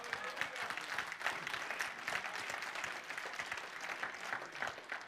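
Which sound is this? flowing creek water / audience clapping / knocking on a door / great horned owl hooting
audience clapping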